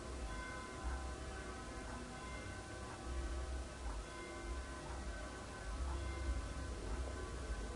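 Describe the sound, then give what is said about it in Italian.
Church bells ring continuously with layered, sustained tones and a steady resonant wash, with a low rumble underneath and no voices. “Si respira il suono delle campane.”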